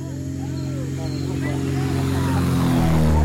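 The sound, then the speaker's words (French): A small propeller airplane engine drones steadily with a low, buzzing hum that swells louder toward the end as the plane arrives at a village, faint voices of villagers murmuring in the background. “L'arrivée de l'avion a attiré tout le village.”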